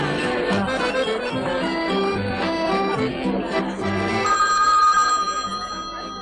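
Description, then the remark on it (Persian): A telephone bell rings steadily and insistently, its bright metallic trill sounding loud, layered over a busy background of tonal sound, with no one speaking. “عمو کارلو، عمو کارلو بیا تلفن میخواد.”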